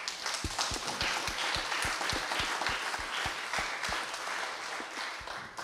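An audience at a human rights camp event in Bulgaria applauds steadily for several seconds, a dense wash of many hands clapping, with a few louder individual claps punching through at a fairly regular rhythm.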